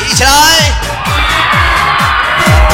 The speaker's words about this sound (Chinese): 准备好你的尖叫声好吗？尖叫声啊！